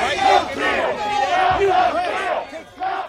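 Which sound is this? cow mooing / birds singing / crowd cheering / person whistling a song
crowd cheering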